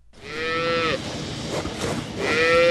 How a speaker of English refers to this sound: What do these cows on this dairy farm in northeast Colorado have to do with China? More than you'd think.